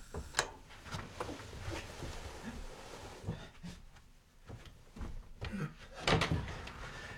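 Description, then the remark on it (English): A door being unlocked and opened: a series of metallic clicks and rattles, a pause, then heavier clunks and a final thud as it swings open, with faint background noise. “Open the door.”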